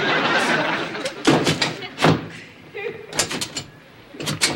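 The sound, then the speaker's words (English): A stuck door with no handle is shoved and rattled in several bursts, with loud thumps and clattering shakes against its frame, separated by short pauses and faint voices. “There's no handle. Yes, there is. Where? Here. Well, that's going to make it a little tougher to open.”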